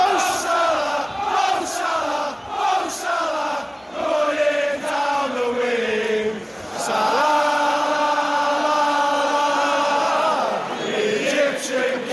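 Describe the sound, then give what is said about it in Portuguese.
A large crowd of Liverpool football fans sings a chant for player Salah in unison, loud and sustained, with rhythmic phrases repeating and voices rising together into long held notes. “A idolatria de Salah com os torcedores do Liverpool é tão grande que tem música para o jogador.”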